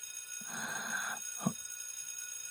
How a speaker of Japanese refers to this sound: お、何の音？火災報知器か。